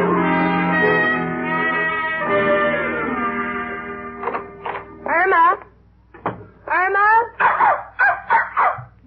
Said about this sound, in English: what are we going to do about that little doggy upstairs?